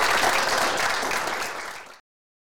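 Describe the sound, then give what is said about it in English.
A crowd applauds a guest who has come in today, a dense wash of many hands clapping at once that stays steady and fairly loud before cutting off abruptly after about two seconds. “So would you all give him a major round of applause for coming in today?”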